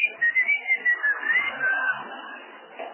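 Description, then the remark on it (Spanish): A person whistles while trying to make water come out of a tap: a quick run of short chirping notes, then a longer wavering whistled tone that slides up and down before fading out, with no talking. “Después chiflé creyendo que era una cuestión sonora.”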